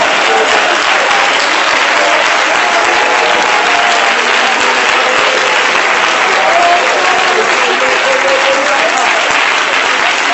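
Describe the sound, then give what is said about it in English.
A church audience claps hands unto the Lord steadily and loudly for about ten seconds, a dense, continuous wash of applause with faint voices murmuring underneath. “Let's clap our hands unto the Lord right now.”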